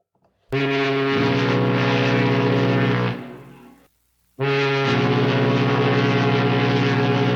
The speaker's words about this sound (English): So, I'll sound the fog warning horn, and we will dive right in.